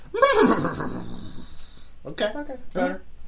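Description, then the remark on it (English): A person imitates a horse's neigh: a long, quavering, wavering whinny that trails off, followed by two short breathy bursts, with no actual words spoken. “Brown horse, what are you doing over there?”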